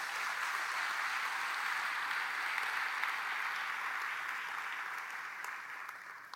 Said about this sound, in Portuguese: Glória a Deus, queridos. Pode aplaudir ao Senhor Jesus.